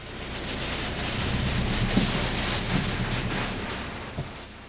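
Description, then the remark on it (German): Steady, dense rush of spraying water and churning brushes in an automatic car wash, rotating long-fringed brushes moving in from both sides and above to foam up a car, fairly loud, with a few soft thumps along the way and no voices. “Die Bürsten kommen ganz dicht ans Auto heran und schäumen es ordentlich ein, von allen Seiten.”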